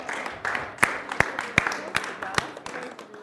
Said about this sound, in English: Let's give the Lord a round of applause.